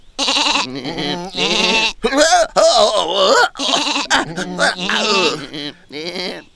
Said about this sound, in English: Stupid sheep!